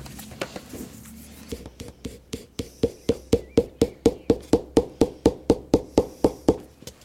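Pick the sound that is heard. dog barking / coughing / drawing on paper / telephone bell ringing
drawing on paper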